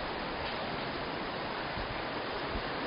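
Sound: rushing water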